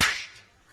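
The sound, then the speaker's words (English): A single sharp slap in the face cracks out, loud and bright, then fades quickly into quiet, faint reverberation with no voices. “Slap in the face.”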